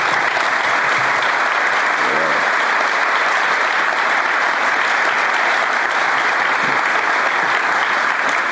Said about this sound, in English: We are exceptionally fortunate to have such commitment at the helm of our institutions. Would the presidents all stand so we can applaud them for their service?